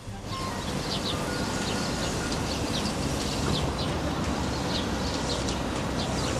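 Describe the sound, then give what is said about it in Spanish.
Small birds chirp in short, bright bursts in a park while the grass is being worked on. A steady, loud outdoor rumble like machinery runs underneath, with dogs in the background and no voices present. “Parece que están arreglando la hierba, hay perritos de fondo, hay pajaritos.”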